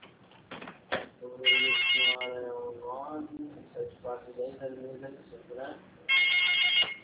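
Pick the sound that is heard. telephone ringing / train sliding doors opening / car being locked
telephone ringing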